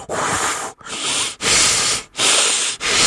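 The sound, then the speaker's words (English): A preacher imitates heavy, menacing breathing: four loud, raspy breaths in a steady rhythm, each separated by a brief pause, with no talking. “He was breathing the breath of death.”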